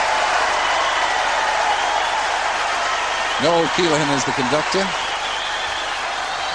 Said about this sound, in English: It'll be thunderous applause for this.